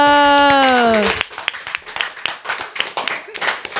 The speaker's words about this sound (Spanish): Muy bien, un aplauso.